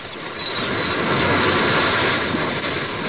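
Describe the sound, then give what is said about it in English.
A whale surging up out of the water: a loud, continuous rushing roar of churning water that swells in the first half-second and holds steady for a few seconds, with no voices. “Tis Moby Dick. Pull. Pull for life. He comes up.”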